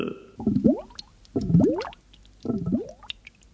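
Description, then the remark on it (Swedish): Three bubbly gurgles of water, each a short burst of rising blips about a second apart, air bubbles rising as the character Braxen Pankan swims underwater toward an island. No one speaks. “Det ser man på bubblorna.”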